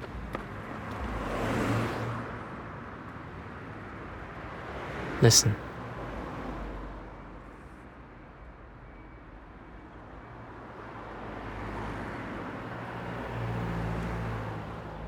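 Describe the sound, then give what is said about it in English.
A steady hubbub of road traffic rumbles on throughout, dense and continuous, with a brief sharper burst about midway; a voice speaks briefly over it. “But the traffic is just a hubbub in the background that we could do without.”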